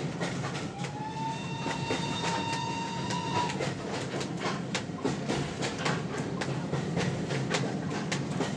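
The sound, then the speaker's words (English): A steady train whistle sounds for about three seconds over the continuous roar of a moving train, whose rhythmic clacking of wheels on the rails carries on loudly after the whistle stops. “That was an impressive whistle blow, wasn't it?”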